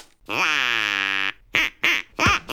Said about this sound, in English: And just to prove we're serious about this, we've got a duck. And we're not afraid to use it.